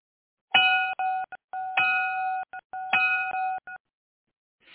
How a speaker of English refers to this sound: The bell is about to ring, guys.